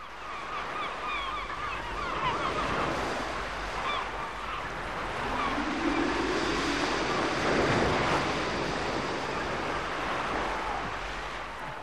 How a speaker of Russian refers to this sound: Ну что ж, море так море. Режиссер, пожалуйста, море.